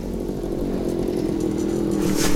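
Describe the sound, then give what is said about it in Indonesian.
A motorcycle engine, started in a garage, runs steadily, a buzzing, droning idle that holds even throughout and swells slightly as it revs near the end as the rider sets off along a village road at night, with no voices. “Sesaat kemudian, Pak Rahmat menuju garasi, menghidupkan mesin motor, dan dalam sekejap sudah menyusuri jalan desa, menembus kegelapan malam.”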